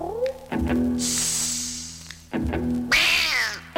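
A cat meows repeatedly, loud drawn-out yowls with strong harmonics, three or so calls in quick succession with brief breaths between.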